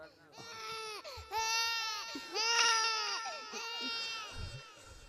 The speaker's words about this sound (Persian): بذار این بچه گریه میکنه اول بیاد.